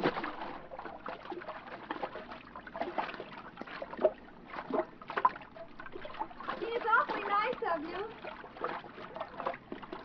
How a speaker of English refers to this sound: I'll swim out and take a look. Thanks. Here I come.